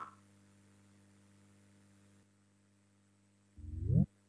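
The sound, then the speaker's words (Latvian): A low electrical hum fills the first half, then near the end a single loud voting bell in the Latvian Saeima sounds, calling a vote on the legal bureau's sixth proposal: a half-second electronic tone rising in pitch with strong harmonics. No one speaks. “Lūdzu zvanu, balsosim par sesto juridiskā biroja priekšlikumu.”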